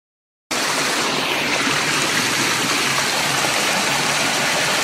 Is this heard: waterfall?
yes